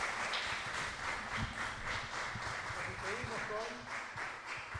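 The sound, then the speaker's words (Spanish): Steady, dense applause from an audience for the orchestra Aeropuertos Argentina with the ensamble del fin del mundo keeps a constant level throughout, with a few voices calling out "bravo" over the clapping. “Fuerte el aplauso.”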